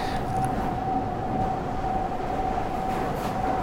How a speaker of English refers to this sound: Now, from this tunnel ambience, you can hear that I'm currently inside. The sound of the engine is echoing against the tunnels.